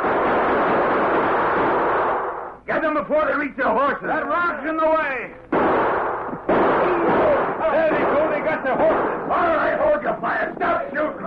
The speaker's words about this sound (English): All right, hold your fire. Stop shooting.